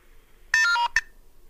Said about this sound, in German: Und hier ist zumindest auch die Telefonnummer des nach Hilfe Suchenden in dieser E-Mail drin. Und diese Nummer, die habe ich zunächst mal angerufen.